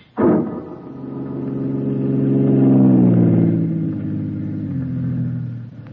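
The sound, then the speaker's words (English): In the radio drama Big Town, a car engine kicks in abruptly and revs as the car drives out onto an old coal dock, its low droning hum climbing in pitch, then easing down as the car keeps driving, loud and steady with no voices. “Hey, gimmick, what's the big idea driving out in this old coal dock?”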